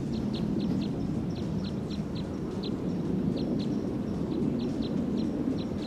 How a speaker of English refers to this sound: Start recording the wild bird from about 40 meters away on filter 3.